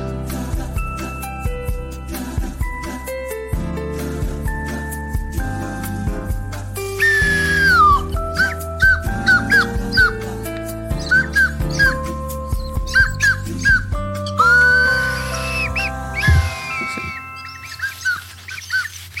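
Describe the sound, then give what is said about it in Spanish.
A squeaky chicken whistle toots a string of short, wailing squeals and glides, loud, playing a tune in A minor over a steady musical accompaniment. “Silbato de pollo en la menor.”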